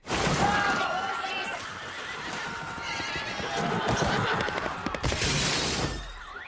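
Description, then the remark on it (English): Horses whinny loudly over a busy, clattering rush of hooves galloping on pavement on the streets of Boston after being accidentally set free, with shouting voices and crashing noise mixed into the chaotic scene. “The horses run wild after your cousin from Boston accidentally sets them free.”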